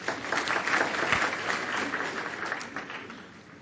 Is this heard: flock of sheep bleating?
no